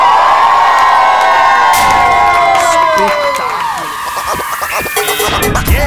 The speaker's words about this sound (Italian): Dunque, io direi che chiudiamo come siamo partiti, cioè con la nostra sigla. Io vorrei sentire un bel boato ad alta densità.